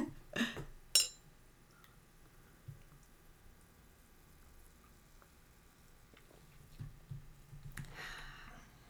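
Two big, thick, heavy champagne glasses filled full of champagne clink together twice in quick succession near the start in a toast on the first day of 2013, a short, somewhat dull thud-like knock with a faint ring, followed by quiet background sounds and another soft clatter near the end.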